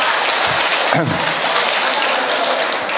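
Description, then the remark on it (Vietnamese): A crowd claps steadily and energetically in welcome, a dense, even wash of applause that holds at full strength for the whole few seconds, with a brief voice or cheer rising through it. “Vâng, thưa anh chị em, chúng ta một tràng pháo tay để chúng ta chào mừng.”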